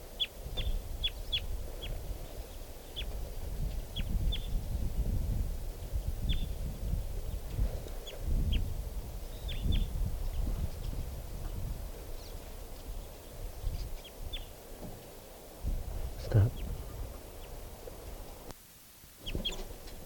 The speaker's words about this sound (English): Okay, I think I might be able to get a crossbill here. There's one right in the tree above the car. There's a lot of crossbills around here. Type 2s and type 4s only so far. Here's a bird.